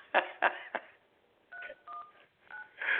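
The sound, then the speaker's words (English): A phone number is dialed to call back into a show: a few sharp clicks, then three short two-tone keypad beeps spaced apart, followed by a brief rushing burst. No one speaks. “Now, hold on, let me get him on here, and then I got to call back into my own show.”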